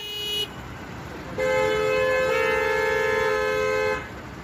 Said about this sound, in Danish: Det er lyden af københavnske biler, der ikke kan flytte sig ud af stedet, fordi vejen er spærret af unge i orange veste.